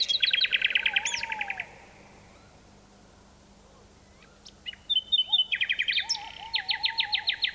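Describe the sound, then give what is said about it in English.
A nightingale sings bright, rapid repeated trills and whistles in two bursts separated by a quiet pause, its song echoing across a deep valley in Dorset, England, recorded in 1982, while a lower, wavering tawny owl call sounds faintly beneath, over soft outdoor hiss. “This nightingale's song echoes across a deep valley in Dorset, England, and a tawny owl joins in.”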